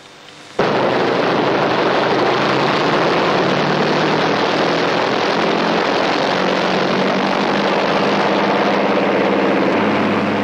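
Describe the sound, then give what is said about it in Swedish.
Heavy bomber aircraft engines start abruptly at an airfield, started by young pilots, and settle into a loud, steady, rumbling drone with low throbbing tones, sustained without a break and with no voices. “Det dröjer inte länge förrän luftens stålfåglar börjar brumma.”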